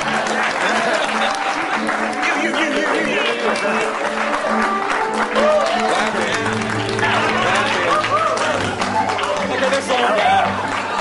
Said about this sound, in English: There must be no more clapping. They're done. Never stop clapping.